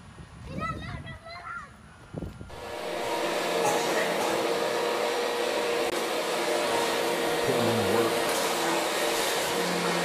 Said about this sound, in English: You said you couldn't vacuum solid floors. I can.